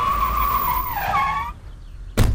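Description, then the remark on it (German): Police car tires screech in a long, loud skid as the cars arrive suddenly, the squeal wavering and dropping in pitch as the vehicles brake hard, followed by a sudden bang-like thud at the end. “Denn die Polizeiautos jetzt so plötzlich her?”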